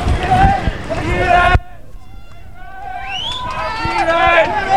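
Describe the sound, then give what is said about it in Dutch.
A crowd of people runs along a street near the Korenstraat and Sint-Peterstraat as the area is cleared and they are chased over a bridge; their many footsteps are a loud, dense patter that suddenly drops away, leaving scattered shouts, whistles and voices calling. “Nou, de mensen die worden over de brug gejaagd.”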